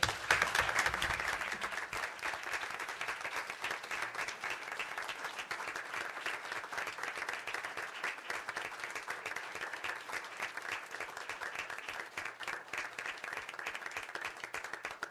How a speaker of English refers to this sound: Ladies and gentlemen, this is what a community is about. Please join me in a round of applause and gratitude to thank these community members for their time and efforts.